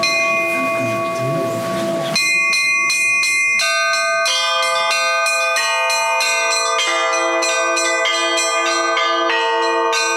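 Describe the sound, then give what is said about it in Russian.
Church bells of the Church of St. Dmitry Donskoy in Krasnodar, Russia, are rung loudly from its bell tower by bell-ringers at a bell-ringing festival, struck in a quick, overlapping peal whose tones hang and blend together after a brief noisy opening; no voices. “Помолившись перед началом доброго дела, все поднялись на колокольню.”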